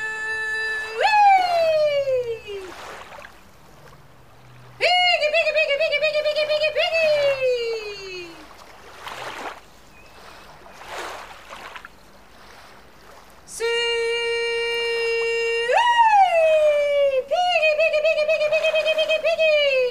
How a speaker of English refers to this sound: Now, a stupid thing to do in a boat. Hog calling.